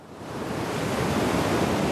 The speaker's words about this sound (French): Entendre le vent glacial souffler au Grand Nord